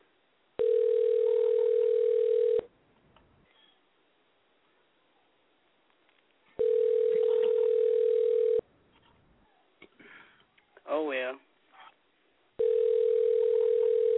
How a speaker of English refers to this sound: don't hear his phone ring. He probably don't even know he got a phone right now.